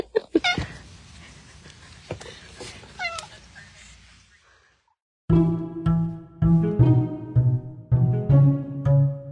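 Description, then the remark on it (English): A cat meows a few times with short, rising cries over a faint background hiss while trying to get in through a door, a tiny paw showing under it. After a brief pause, louder sustained tonal sounds take over. “Sorry, my cat's trying to get in. I saw a tiny paw under the door.”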